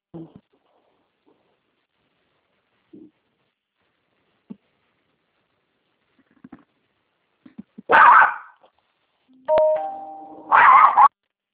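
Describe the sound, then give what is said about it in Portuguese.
After a mostly quiet stretch with faint scattered noises, an angry dog lets out three loud, harsh bursts of barking in quick succession near the end. “Que cachorro bravo é esse?”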